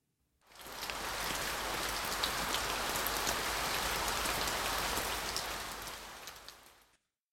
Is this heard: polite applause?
no